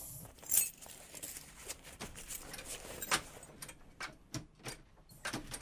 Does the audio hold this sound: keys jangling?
yes